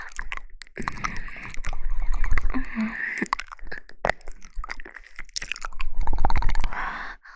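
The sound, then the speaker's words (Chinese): Wet, smacking chewing and mouth noises repeat in an uneven rhythm, with soft crunchy clicks and occasional breathy sounds, steady at moderate loudness with no speech. “让我好好尝一尝。”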